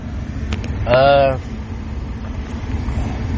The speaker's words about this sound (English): Sorry if y'all hear the AC. My blower broke. I been knew that. Like, when I got this car, they was like, oh yeah, your blower broke.